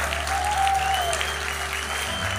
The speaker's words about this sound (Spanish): Dale un aplauso más fuerte, por favor.